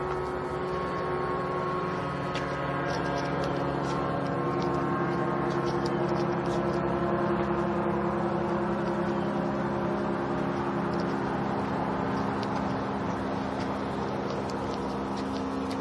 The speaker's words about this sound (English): Oh, there it is. It's an airplane. I hear this buzzing sound over the lawnmowers, and I'm trying to find it.